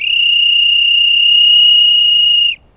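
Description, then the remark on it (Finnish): A shrill, trilling whistle from a handmade willow whistle, the trill made by vibrating the tongue, holds one steady, fluttering high note for about two and a half seconds, loud, then cuts off abruptly. “Kun pistää kielen tärisemään, niin tätä voi käyttää erotuomarin pillinä.”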